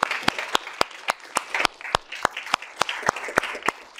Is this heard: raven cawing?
no